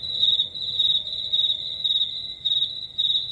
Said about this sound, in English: I turned off everybody's microphone so you could just bask in my crickets.